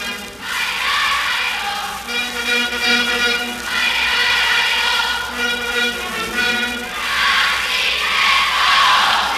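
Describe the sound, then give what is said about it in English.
A capacity crowd at a basketball game in the Sheboygan Armory roars and cheers steadily, swelling loudly in waves, with shrill, whistle-like tones cutting through the sustained din of many voices. “The Sheboygan Armory has a capacity crowd tonight, and the game we've all been waiting for, the second annual North Central contest, is about to begin.”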